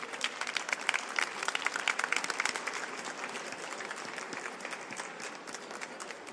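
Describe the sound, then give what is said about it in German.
An audience at the Leipzig Book Fair applauds Toyotaro steadily for several seconds, a dense wash of many hands clapping that stays fairly even in loudness, with no voices standing out. “Dann sage ich nochmal ganz herzlichen Dank und vielleicht auch nochmal einen kräftigen Applaus.”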